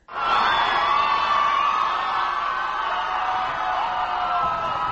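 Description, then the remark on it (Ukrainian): A large crowd cheers and whoops continuously as Barack Obama sets off to the Capitol for his presidential inauguration, a dense wash of voices that swells in quickly and stays loud and steady throughout, with scattered shouts rising above the roar. “І от сьогодні він під вітання юрби вирушив до Капітолію.”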